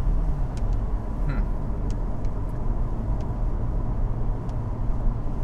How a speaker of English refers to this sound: why would this guy be driving with his window open in this horrible rain pouring?